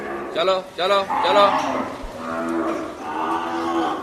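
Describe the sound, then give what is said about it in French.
A buffalo lows loudly, with a few short rising calls followed by a long, drawn-out moo, against faint background noise of the Shamshabad livestock market in India. “Quelques buffles gambadent sans être inquiétés alors que les commerçants sont assis dans un coin ombragé.”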